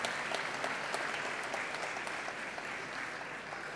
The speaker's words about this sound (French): je vais remercier l'association des interprètes en langue des signes qui nous permet de faire suivre les conférences au plus grand nombre. On peut les applaudir, c'est la deuxième année qu'ils sont là et c'est vraiment chouette. Merci beaucoup.